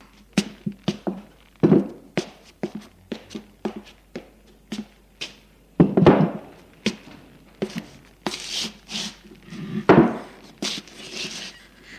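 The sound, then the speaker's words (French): A woman takes a wooden chair from against the wall. It is handled, knocked and scraped across the floor in a string of sharp clunks and thuds, followed by rougher shuffling and a creak as she sits down near her daughter. “Elle prend une chaise qui se trouve contre le mur pour aller s'asseoir près de sa fille.”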